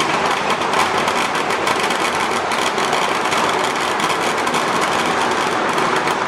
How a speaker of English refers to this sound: And what I should mention, actually, when you hear the firecrackers going on off like that, they actually have, you can sort of call them portable temples.